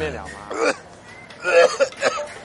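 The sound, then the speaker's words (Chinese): Someone coughs repeatedly in rough, raspy bursts: a short fit early on, then a louder cluster of hacking coughs and throat-clearing a moment later. “哇，你咳嗽咳到这样啊，我看哦，哎，应该是你的肺不好啊，你再不保养哦，加多三岁了。”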